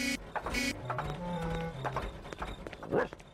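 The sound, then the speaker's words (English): Daddy Pig's car engine sputters clunkily with irregular knocks and pops over a wobbling, stepped drone, loud throughout, with no voices. “Oh dear, Daddy Pig. Your car does not sound very well.”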